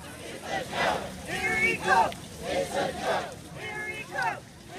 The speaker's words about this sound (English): In a video posted to YouTube, dozens are taking part in a protest at a boat launch near Erie Coke.